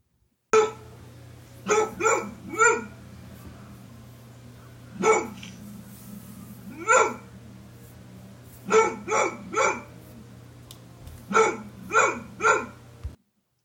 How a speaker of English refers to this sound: Yeah, they're beautiful cool. dogs. And they bark, and this is their bark.